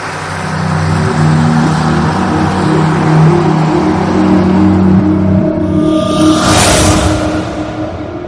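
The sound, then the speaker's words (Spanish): A car engine rumbles steadily, its low drone shifting pitch as the driver puts the car in gear, then a brief rushing surge as the vehicle pulls away from the house. No one speaks. “Me concentré, puse el carro en marcha y nunca volví a mirar atrás.”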